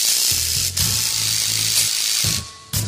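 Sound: chainsaw engine revving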